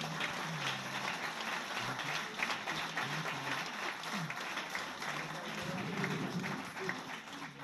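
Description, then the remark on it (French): Sustained applause from an audience at the end of an evening talk fills the whole stretch, dense and steady, with many hands clapping at once and a faint murmur of voices underneath. “Merci à vous et je pense qu'on peut vous applaudir une dernière fois.”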